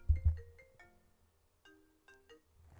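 A phone notification tone plays through a computer while the phone is set to do not disturb, a short chiming melody of bright descending notes with a low thump at the start, then two more chime phrases, fairly quiet and alone.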